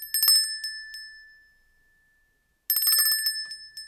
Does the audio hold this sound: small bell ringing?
yes